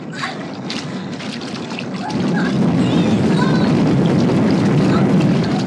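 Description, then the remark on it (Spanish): A sudden plunge into water about two seconds in as a man leaps in to rescue a boy, followed by loud, continuous splashing and churning that stays steady until the end. “El hombre increíble se ha lanzado al agua sin vacilar para auxiliar al muchacho, mientras que siniestras aletas empiezan a rodearlos.”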